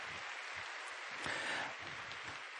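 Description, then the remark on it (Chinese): An audience claps together to glorify God in a dense, continuous wash of applause that swells slightly in the middle and holds steady throughout, with no one speaking over it. “想请大家用掌声去荣耀我哋嘅神，好唔好？”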